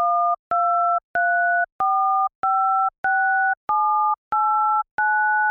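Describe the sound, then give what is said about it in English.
Nine touch-tone telephone keypad button beeps in a steady sequence, each a two-pitch chord. The lower row pitch rises every three buttons while the higher column pitch cycles through three steps, with a faint click between beeps. “If you listen closely, you can hear how the row pitch, which is lower, changes every third button, while the same pattern of three pitches for the columns repeats on top of it.”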